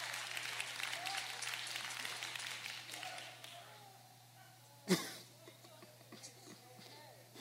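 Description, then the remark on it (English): An audience claps their hands in a dense burst of applause that fades after a few seconds, followed by one sharp knock while voices talk. “Some of y'all need to clap your hands even though you don't believe it.”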